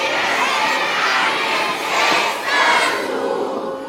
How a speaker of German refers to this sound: Okay, so klingt's, wenn 500 Leute rufen